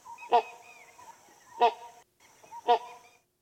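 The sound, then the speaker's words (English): Three loud, harsh grunting calls from a great hornbill, evenly spaced about a second apart, each a short deep honk-like bark standing out clearly against a quiet background with no talking. “Let's take a large bird. Let's see, great hornbill. Oh, yes, fantastic. Found in Southeast Asia.”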